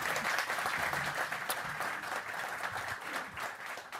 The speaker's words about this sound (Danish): vi sender jo direkte her fra salongen, den fine salon på Berlingske i Pilestræde 34 i Kongens København, hvor vi også har publikum på, et veloplagt publikum. Giv jer selv en hånd.